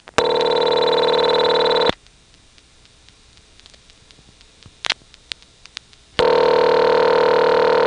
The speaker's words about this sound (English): The first and second ring on that call were especially interesting because the first ring had a tone ringer from someone's phone actually bleeding through onto the line, and then the second ring doesn't have the bleeping in it.